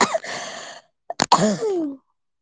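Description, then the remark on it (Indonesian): A raspy cough fit: a rough hack, then a couple of short sharp bursts and a longer hoarse, throaty cough trailing off, with no talking. “Man, langsung semua batuk aku.”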